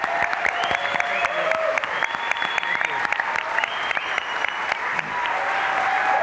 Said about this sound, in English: All right, there will be only one and only one time to applaud the candidates, and that is now. So let's give everyone a big round of applause.